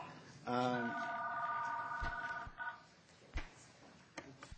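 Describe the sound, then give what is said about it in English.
A phone rings during a public community planning meeting with a steady, buzzy electronic tone for about two seconds, clear, followed by a few sharp knocks and clicks over low background noise. “Someone's phone is ringing.”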